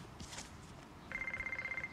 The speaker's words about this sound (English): stands to answer the phone.